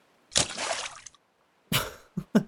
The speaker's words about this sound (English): Did you seriously just splash me?